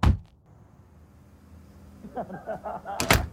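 A door, opened by a father, clunks open with a sharp thump at the start, a muffled low rumble follows, and faint voices murmur before another abrupt knock-like thud near the end.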